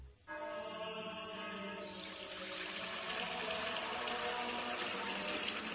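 Spring water of the Fuente Umbría brand pours steadily into a container for several seconds, a continuous splashing rush with a hollow, ringing resonance that grows fuller as it fills. No voices are heard.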